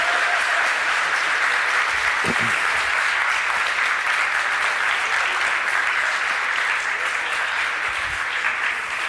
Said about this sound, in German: Einen großen Applaus für unsere Kandidaten für die erste Speedhacking-Show der Welt.